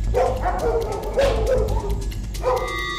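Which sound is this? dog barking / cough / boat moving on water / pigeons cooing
dog barking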